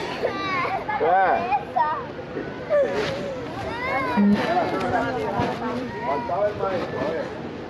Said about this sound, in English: Anyone who hadn't been paying attention up until this point could no longer look away. The audio of children screaming and sobbing for their parents while being mocked by Border Patrol agents went viral.